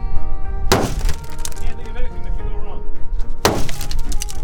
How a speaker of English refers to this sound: Because although Hard Life grants you all the life you'll ever need, we can always use more glass break noises.